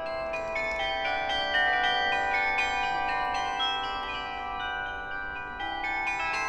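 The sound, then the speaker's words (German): The 38 carillon bells in the roof turret on Kupfergasse ring out a melody, many bright overlapping tones sounding in quick succession with long shimmering decays, steady and fairly loud throughout with no voices. “Der Besonderheiten jedoch nicht genug, zeichnen sich die 38 Glocken im Dachreiter der Kupfergasse durch ein besonderes Klangphänomen aus.”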